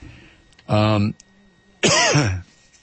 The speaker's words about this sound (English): excuse me again. I'm sorry. There's just nothing I can do. Nothing I can do about this cough.